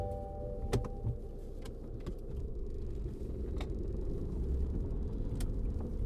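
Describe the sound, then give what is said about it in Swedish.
A car's low, steady engine rumble as someone gets into the car and sets off on a drive, with a few sharp clicks and light knocks scattered over it and no one talking. “Med ett visst vemod sätter jag mig i bilen och påbörjar färden till vardagen.”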